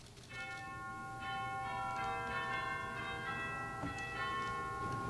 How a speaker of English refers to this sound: It is remarkable. It has many different sounds on it. It is like the full orchestra. I can demonstrate a little bit for you. I can hold that. Hold that. That would be good. Chimes.